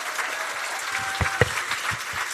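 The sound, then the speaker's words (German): An audience breaks into steady applause for the speaker's boyfriend, a dense wash of many hands clapping at an even level, with a few sharper individual claps standing out. “Applaus erstmal.”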